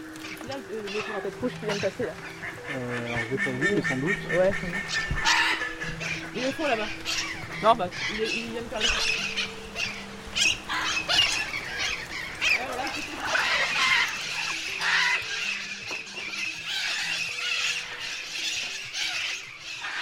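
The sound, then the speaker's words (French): Busy, agitated bird calls fill the air at the Bioparc de Douai-la-Fontaine, with crow-like caws and goose-like honks overlapping as the birds fly around, while a person talks underneath the commotion. “On l'entend hein, tout de suite, il y a un petit peu d'agitation.”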